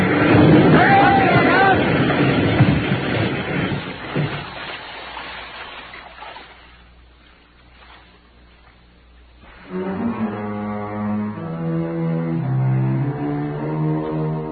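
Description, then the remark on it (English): Alex's motorboat's two engines roar loud at full throttle as it swings straight in at another boat in choppy water, then a crash as it hits that boat gives way to a fading, wind-blown rumble before music begins. “As we came up on him, Alex suddenly swung his bolt straight in at us and gunned his two motors wide open.”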